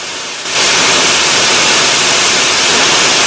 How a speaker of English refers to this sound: Starting in the very centre of the spiral, the cleaner slowly starts to wash it off with the high-powered jet, creating a small circle of white and working outwards from it.